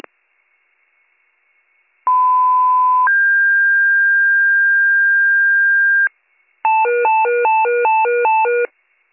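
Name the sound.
dispatch pager alert tones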